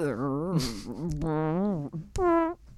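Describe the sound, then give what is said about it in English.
A voice imitates a fart with drawn-out, wavering, buzzy tones in a few fairly loud bursts, ending in a sharp sputter. “Oh, now that fart is dangerous.”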